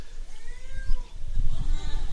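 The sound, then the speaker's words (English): Someone vocally imitates a peacock call, producing a couple of drawn-out, wailing, meow-like cries with rising and falling pitch over low background rumble and murmuring. “Are there any good peacock imitators?”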